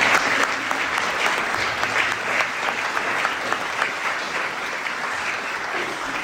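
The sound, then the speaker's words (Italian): A crowd applauds steadily at an event of the Signorelli high school, a dense wash of many hands clapping at an even loudness throughout, with no voices standing out. “Ecco, direi di fare un applauso di stile.”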